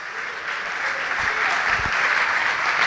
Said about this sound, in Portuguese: Fique de pé no seu lugar e vamos aplaudir o Senhor Jesus.